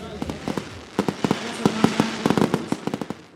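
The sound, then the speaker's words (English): Rapid, irregular bursts of fireworks crackle and pop, dozens of sharp reports clustering into a busy barrage over a steady rumbling background, the fireworks lighting up the sky in a short display. “Yeah, we liked the fireworks. That was fun. It was a nice surprise. Fireworks are beautiful.”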